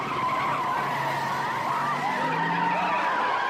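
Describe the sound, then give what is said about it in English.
A police car's tires screech in a long, loud, continuous skid as it speeds away from a mob in a quick getaway, the wavering squeal holding steady for several seconds with no talking. “The mob runs away from the police car, which makes a quick getaway.”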